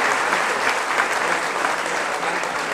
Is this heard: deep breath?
no